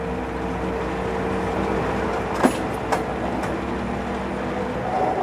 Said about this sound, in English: So we're seeing the train leave what is presumably a stop, maybe the train yard, right?